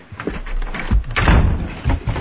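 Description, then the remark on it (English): A door bangs shut, a heavy thudding slam with some rattling and a couple of follow-up knocks as it settles. No one speaks. “One more sound, and you'll wish you'd never been born, boy. And fix that door.”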